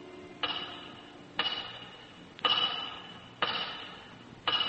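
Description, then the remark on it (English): A big clock, watched through the windows from a cell, ticks slowly and steadily, five heavy ticks about a second apart, each leaving a brief metallic ring before the next, with no voices present. “And stare through the windows at the big clock.”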